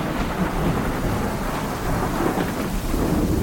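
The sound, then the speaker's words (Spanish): A thunderstorm: steady, heavy rain hisses over a deep, sustained rumble of thunder, loud throughout with no one speaking. “Con brontofobia, que es como se conoce este pánico a los truenos, a las tormentas.”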